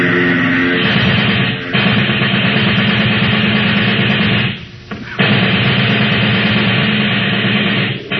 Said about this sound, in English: Get out the submachine gun. You can't. Barnhouse is in that plane. You'll kill him. We've got to take that chance. That plane's headed straight for us. Hit the dirt! Get that gun working, Corporal. Aim for the propeller.